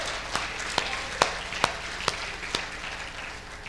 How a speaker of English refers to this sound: Amen? Y'all can give that hand clap.